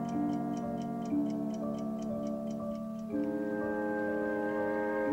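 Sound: clock ticking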